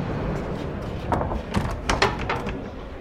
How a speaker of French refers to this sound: Donc, nous venons d'entrer une petite porte verte en bois qui donne directement sur cette bananeraie, sur cette caserne.